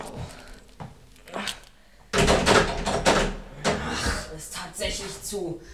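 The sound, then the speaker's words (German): A locked church door is tried and rattled from inside by people locked in: a few quiet knocks, then a burst of loud clattering jolts as the handle and door are shaken repeatedly against the frame. “Ich will jedoch noch mal prüfen, ob die Tür wirklich zu ist.”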